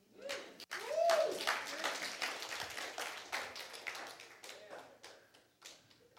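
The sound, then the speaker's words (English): An audience at a church breaks into steady, loud clapping that fills the whole stretch, with a voice or cheer rising briefly near the start before the applause slowly thins out. “You can clap.”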